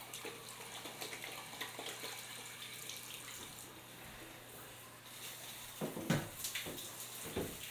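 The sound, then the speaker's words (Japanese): Water runs steadily as shampoo is rinsed from hair, a soft continuous hiss that breaks into a few louder splashing bursts toward the end. “よし、頭流しますね。”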